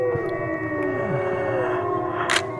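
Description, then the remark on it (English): A chorus of wolves howls in response to people howling, several long, overlapping wavering tones gliding up and down, sustained throughout with no voices. “And now all the wolves are howling in response.”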